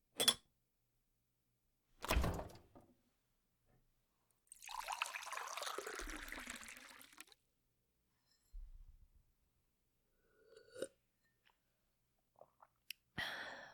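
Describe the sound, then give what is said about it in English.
Water pours into a glass in a kitchen for about three seconds, steady, framed by a few sharp clinks and knocks before and after. No one speaks. “I'll just have water.”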